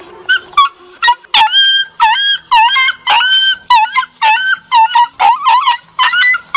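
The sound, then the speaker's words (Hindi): A dog yelps and howls after being hit with a stick by a neighbour, in a rapid series of high, wavering cries, loud, each breaking off briefly before the next begins, with no voices present. “अरे है कौन मरला से हमारा कुतवा के रे?”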